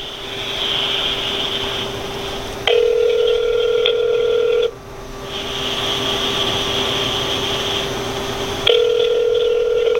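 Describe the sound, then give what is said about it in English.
Ringback tone of an outgoing phone call: a steady, buzzy tone sounds for about two seconds, goes quiet for several seconds, then starts again, over a constant high hiss. No one speaks. “She won't hear it.”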